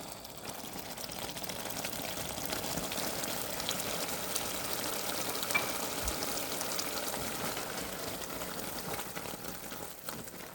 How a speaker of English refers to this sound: We just poured the bourbon into the hot caramel sauce and watched it violently foam up